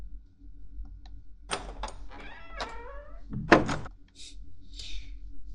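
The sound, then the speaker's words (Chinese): A door is opened indoors after someone calls at it to collect the rent: a few sharp latch clicks and clunks, a short creaking squeal, then a heavier thump, with no one speaking. “怎么这么久才开门啊？”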